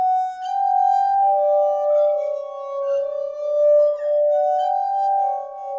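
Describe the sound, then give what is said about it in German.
Pure, sustained ringing tones of a glass armonica, its glasses turned on a pedal-driven axle and touched with fingertips, glide and overlap, a bright shimmering chord of rubbed glass that swells and shifts pitch, fairly loud, with no talking. “Und die Fingerspitzen vorsichtig auf die drehenden Gläser legen. Und schon geht es los.”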